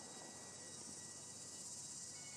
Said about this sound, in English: You can hear the cicadas here.